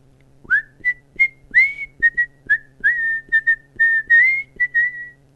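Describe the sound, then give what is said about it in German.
A quick, uneven run of about fifteen short, high whistled chirps, some sliding upward, others flat, sounding alone over a faint low hum with no talking. “… fängt an zu piepen.”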